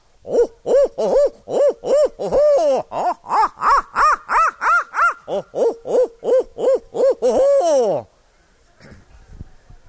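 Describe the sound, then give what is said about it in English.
A person imitates an owl, calling up owls at night while hunting in the Everglades, with a rapid, loud run of about twenty rising-and-falling hoots over eight seconds, then stops, leaving faint background noise. “I call owls up at night and keep them awake, and it doesn't seem to bother me.”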